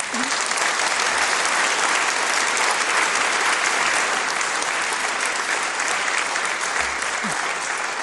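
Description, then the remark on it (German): Loud, sustained applause from an audience welcoming the Pope Emeritus, a dense steady wash of clapping hands that holds at full strength for the whole stretch without pause. “Ein schöner, kräftiger Applaus, das musste sein.”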